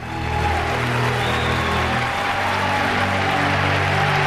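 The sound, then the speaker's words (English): Steady, loud clapping fills the moment, a dense wash of many hands applauding without pause as the crowd is on its feet and cameras flash, with a low sustained tone running underneath. “Marcus claps.”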